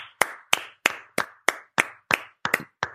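Steady, close-up hand clapping, about ten sharp claps in an even rhythm, sounding like one person or a small group applauding with no voices.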